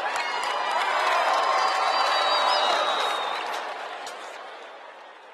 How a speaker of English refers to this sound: So on the count of three, I need y'all to do something crazy. You ready, Coachella? 1, 2, 3, scream!